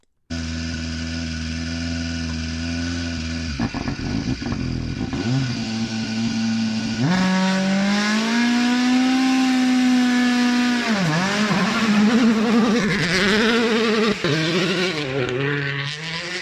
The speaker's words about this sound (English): After 3 months of silence, the glorious echoes of WRC cars testing in the midsummer forests of Finland, a sound we have all missed. It never gets old, does it?